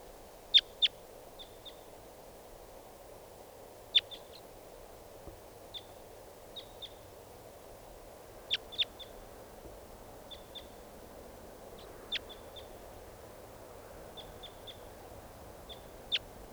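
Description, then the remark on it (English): A wild bird gives short, sharp high-pitched calls in irregular bursts, often doubled or followed by softer chips, over a steady low background hiss with no talking. “Start recording. Here's one of the birds.”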